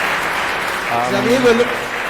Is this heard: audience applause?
yes